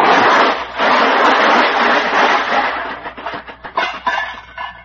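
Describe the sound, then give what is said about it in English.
A car nudges a pole and falls apart: a loud, sustained crunching crash gives way to a scatter of rattling, clattering bits as pieces break off and fall, the impacts growing sparser toward the end. “And I just nudged that pole with it and it fell apart.”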